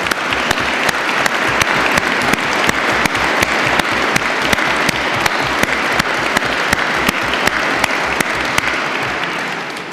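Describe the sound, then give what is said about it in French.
Sustained applause from a large audience at an award ceremony, greeting the winner of the Prix Louis Marin for the book « La ligne de force »: a dense, steady patter of many hands clapping at once, loud and even for the full duration with no voices rising above it. “voudra bien se lever pour que nous puissions l'applaudir.”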